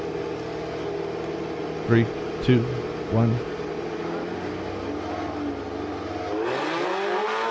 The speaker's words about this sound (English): Okay, he's revving up. There he goes.